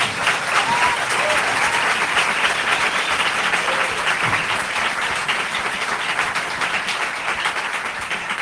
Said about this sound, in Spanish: Pues nada, y como decía, estamos muy bien acompañados porque creo que estáis aquí casi 200 personas que habéis venido hasta este Estación Podcast. Así que bueno, muchísimas gracias por venir. Os voy a pedir un aplauso para que se note que estéis ahí.